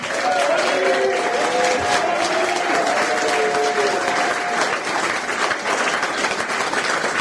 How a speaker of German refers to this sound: Euer Applaus.